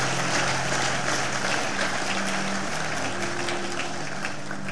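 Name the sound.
audience clapping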